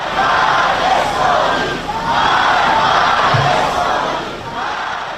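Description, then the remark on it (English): A large crowd in Tehran chants slogans in unison at a rally while waving placards reading Death to Israel and Death to America, loud rhythmic phrases rising and falling in roughly one-second waves over a constant roar of voices. “Meanwhile, crowds rallied in Tehran, chanting slogans and waving placards reading Death to Israel and Death to America.”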